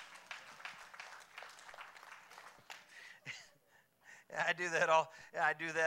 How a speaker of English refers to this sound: Can you applaud in there too to make me feel better?